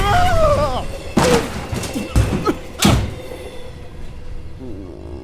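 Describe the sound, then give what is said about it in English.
A sliding train door bangs open on a moving train amid rumbling carriage noise, followed by a few heavy thuds and slams as a body is thrown out, with a brief voice at the start. “That's no way to exit the moving train, my boy.”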